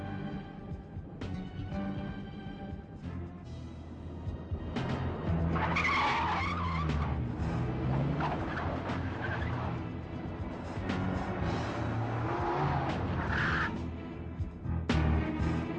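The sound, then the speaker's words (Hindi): A car brakes hard as the driver is told to stop, tires skidding and squealing loudly across the pavement, the engine roaring underneath, the screech building and fading over several seconds. “गाड़ी को अब रोक दो।”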